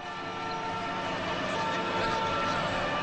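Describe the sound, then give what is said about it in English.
Loud ambulance sirens blare with steady, sustained tones over a dense roar of city traffic as ambulances race through Damascus, Syria, continuous for the whole stretch. “As ambulances raced through Damascus, the residents of the capital felt the force of a conflict that's been fought everywhere else but downtown Damascus.”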